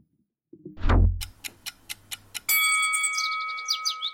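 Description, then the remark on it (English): A low whoosh gives way to a five-minute clock timer ticking quickly and steadily about a dozen times, then a bright, sustained ringing chime takes over, clear, with no one talking. “Five minutes on the clock.”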